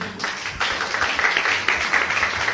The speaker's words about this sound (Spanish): Estáis contentos con él. Mucho. Asentimiento generalizado. Están contentos. Dadle un aplauso al médico.